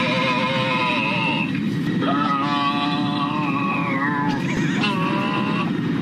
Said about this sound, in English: And that person would not stop making weird moaning and grunting sounds. Play it. Come on, it's a little hard to hear because it is on an airplane, but here you go. Here's three of them.